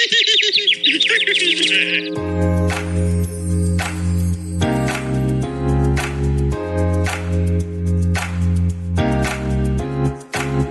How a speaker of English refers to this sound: Oh, look, a bird!